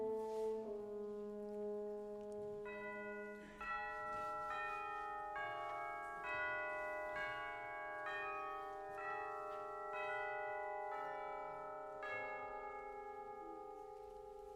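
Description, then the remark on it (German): Church bells ring out in a steady series of overlapping strikes, loud and resonant, over a sustained low drone. The pealing continues evenly with no voices. “die Glocken? Sind das Zeichen, dass unsere Geschichte jetzt beginnt?”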